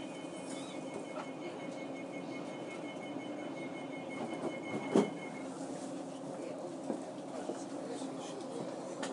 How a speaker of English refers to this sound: And the train's just starting again.